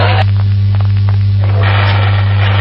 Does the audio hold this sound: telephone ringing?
no